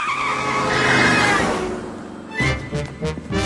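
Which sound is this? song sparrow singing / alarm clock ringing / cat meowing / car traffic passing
car traffic passing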